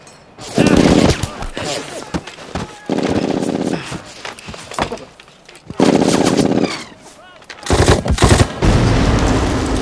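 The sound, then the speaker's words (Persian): Sustained bursts of automatic gunfire laid down as suppressing fire come in four long, loud stretches of rapid rattling shots, separated by shorter gaps filled with scattered shots and faint shouting voices. “آتش بازدارنده حالا.”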